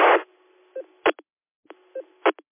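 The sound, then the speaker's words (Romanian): Telephone dialing tones over a narrow phone line: a burst opens, then short electronic beeps and clicks in two similar groups, fairly loud, with no voices. “Hai că am sunat telefonul, revin.”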